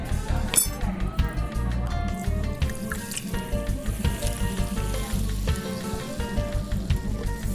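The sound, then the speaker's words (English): Soda splashes over pebble or cracked ice pressed down on a layer of mint leaves in a glass, with a steady, crackling fizz and scattered light clinks of ice, holding at a fairly even loudness for several seconds. “We just need a little splash of soda.”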